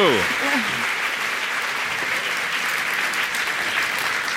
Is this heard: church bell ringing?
no